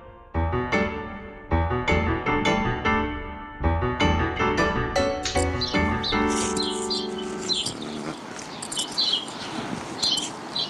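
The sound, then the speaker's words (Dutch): Pigeons and small birds call on a busy city street on Broadway, bright repeated chirps and tonal bursts, giving way to a noisier, more open stretch of street ambience with scattered high chirps. “Hoorden jullie nog de duiven of niet?”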